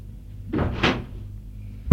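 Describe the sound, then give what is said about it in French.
In a narrated drama, a nurse opens a door: a brief scraping, creaking rush of movement followed by a sharp, solid knock of the latch or frame at the very end. No one speaks. “Je suis l'infirmière qui va ouvrir une porte.”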